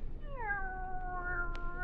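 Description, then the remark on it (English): A cat, called Kitty, lets out one long, drawn-out meow that slides down in pitch and then holds steady, over a low background hum with a brief click near the end. “Will you listen, Kitty?”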